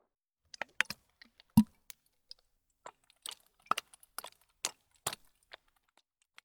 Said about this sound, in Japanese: 聞こえましたでしょうか。今振ったのは炭酸泡の入ったボトルです。